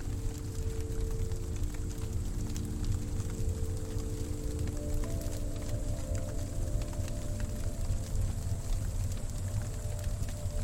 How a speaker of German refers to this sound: Im Kamin prasselt ein wärmendes Feuer.